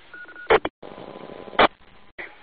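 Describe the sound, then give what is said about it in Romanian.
A thin, steady telegraph-style tone runs over a crackly, narrow-band radio link, broken by two loud bursts of static and brief dropouts. “Și un ton telegrafic pe dedesubt, te ascultăm.”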